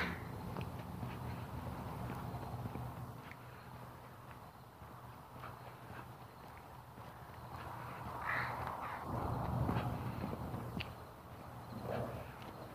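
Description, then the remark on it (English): Several crows caw in harsh, scattered bursts over a steady low rumble, with a soft clopping rhythm in the background; the calls rise briefly louder near the end. “Here come all those crows. What are they coming over here for?”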